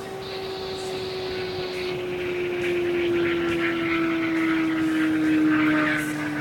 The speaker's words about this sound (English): Here comes the car. The Pickle approaching at about the 2 3/4.